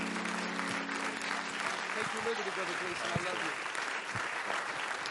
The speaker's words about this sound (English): Let's clap our hands to the Lord Jesus, because there's nobody like Him.